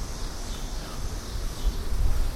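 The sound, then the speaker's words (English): Cicadas drone in a steady, high-pitched buzz that holds unbroken for the whole stretch, moderately loud, over a low rumbling background with no voices. “Many, many marvelous insects making noise.”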